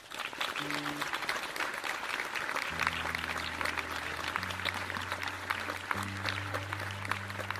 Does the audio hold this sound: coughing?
no